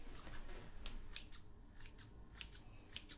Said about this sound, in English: I have these beautiful smooth fabric scissors. And I'm just cutting the lace along the edges because I really don't feel the need to adjust the hairline or anything.